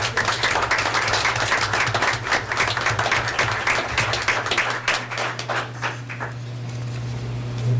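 A crowd applauds with dense, steady clapping that thins out and fades over the last couple of seconds, leaving a low, constant hum underneath.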